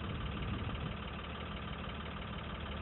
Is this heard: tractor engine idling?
yes